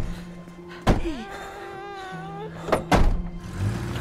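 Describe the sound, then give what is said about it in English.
A car door shuts with a solid thunk as a woman gets into the car, then a second heavy door thud follows about two seconds later. A thin, wavering whine sounds between them over a steady low hum. “She gets in the car.”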